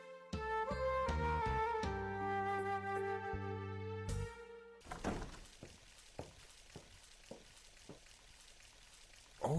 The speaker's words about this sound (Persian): یک باران است. باز خوب شد که کت مترو آمد. یک سرا باران میباره.